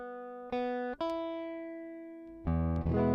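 A guitar being tuned with a wireless tuner on a phone: single strings plucked and left to ring out with steady, sustained tones, three plucks in all, the last one louder and fuller. No voices.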